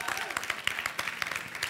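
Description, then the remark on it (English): A church audience applauds the announcement of a Church at the Park day in Sims Park, with dense, steady clapping that fills the whole moment, many hands striking at once in a busy, moderately loud patter. “Yeah, you can clap.”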